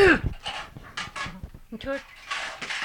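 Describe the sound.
A dog pants in quick, breathy bursts, a steady rhythmic huffing with a few clattering household noises mixed in and what may be a voice briefly in the background.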